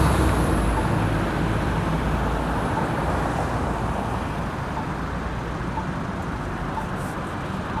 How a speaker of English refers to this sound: One of our city buses.